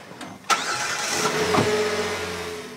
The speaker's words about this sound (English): The van motors up the steep driveway. At the top, it turns right to make the short trip past cows and farm fields to Cagley's Chapel Baptist Church.